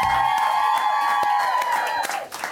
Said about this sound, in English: Mild applause from the audience.